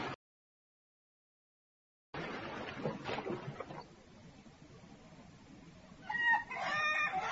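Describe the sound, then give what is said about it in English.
Ducks on a park lake quack a few times near the end over a steady outdoor wash of water and ambient noise, after a short stretch of silence at the start. “Look at those ducks over there.”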